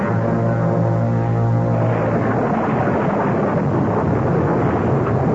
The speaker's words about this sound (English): I feel terrible dragging you out in the storm. Oh, it just blew up out of nowhere.